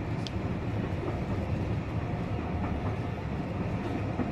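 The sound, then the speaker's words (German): A steam train departs Aviemore, running along the rails with a dense, steady low rumble and faint clatter, holding an even loudness throughout with no voices. “Ich habe aber schließlich in Aviemore noch einmal auf die Abfahrt des Zuges einige Zeit später gewartet, um ihn auch von außen genießen zu können.”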